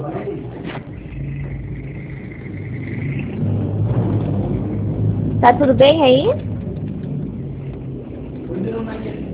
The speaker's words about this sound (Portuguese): O senhor está dirigindo? Só estou no barulho de carro.